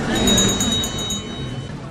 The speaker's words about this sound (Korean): 해마다 이 12월이 되면요. 거리마다 이 딸랑딸랑하는 사랑의 종소리가 넘쳐나는데요. 그쵸? 바로 세상을 구하는 군대라는 뜻의 이 Salvation Army, 구세군인데요.